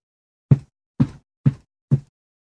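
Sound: feet stamping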